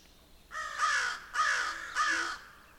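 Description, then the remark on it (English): A crow caws three times in a steady rhythm along a county road, each harsh, raspy call fairly loud, with brief pauses between them and no talking. “Of course, crows are active everywhere.”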